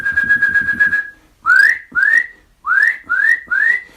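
A Eurasian nuthatch gives loud, clear whistles: first a quick run of rapid piping notes, then five separate rising whistles spaced evenly, with no talking.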